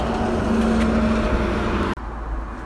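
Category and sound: ambience, street traffic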